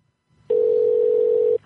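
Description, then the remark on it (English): A steady, loud telephone dial tone hums on one pitch for about a second as a person calls someone back, then cuts off, with only faint background noise before and after and no talking. “I'm calling her back.”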